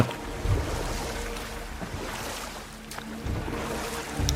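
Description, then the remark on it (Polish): A boat pushes through sea water, with a steady rushing wash and a low churning rumble, punctuated by a few soft thuds of waves against the hull, and wind noise throughout. “Wpływamy na morską wodę.”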